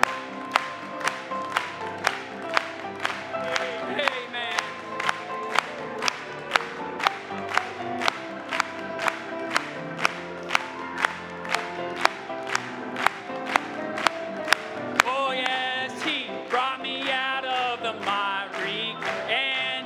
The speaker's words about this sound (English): Now, let's clap it to him one more time.